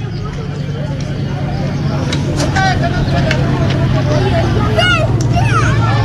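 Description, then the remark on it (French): A passenger train rumbles low and steady, slowly getting louder as it starts pulling out of a station, with faint metallic squeals over the top and a crowd murmuring; people are perched on the footboards of the passenger carriages. “Ah, ça démarre. Ça démarre, oui.”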